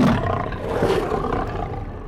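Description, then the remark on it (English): A deep, rumbling roar from a vicious dire wolf, loud, sustained for about two seconds with growling texture throughout and no talking. “And just when they think they've escaped it, they find themselves face to face with a vicious dire wolf.”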